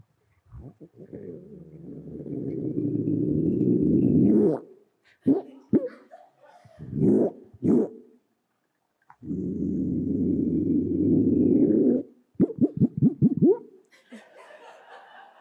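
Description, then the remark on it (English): A Hawaiian monk seal vocalizes with long, low, rumbling moans, broken up by shorter guttural grunts and pulsed bursts, fairly loud with no talking. “Okay, and the answer is monk seal.”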